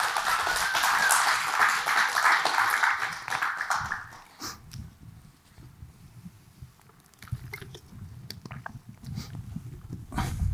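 A crowd bursts into steady, dense applause that holds for about four seconds before fading away, leaving low rumbling and a few scattered claps and knocks.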